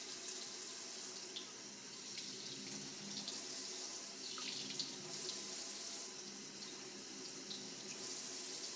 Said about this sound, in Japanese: シャンプーの泡泡が残ってしまわないよう、しっかりと洗い流しませんと。洗い残しは、ふけやかゆみの原因になりますから。